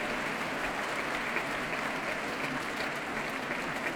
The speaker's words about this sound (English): And those cheers and that applause for Barry Douglas returning to the stage for a solo bow. And he's applauding the members of the BBC Symphony Orchestra. They're returning the compliment.